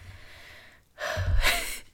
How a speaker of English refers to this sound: Sorry if my breathing annoys you during this.